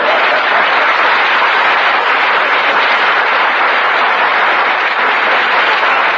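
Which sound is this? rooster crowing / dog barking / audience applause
audience applause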